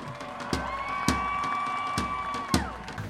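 An audience applauds and cheers loudly and steadily, with a sustained shrill whistle-like tone over the noise and heavy rhythmic thumps landing roughly every half second.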